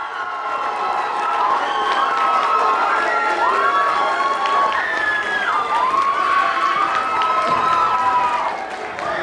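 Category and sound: crowd, audience cheering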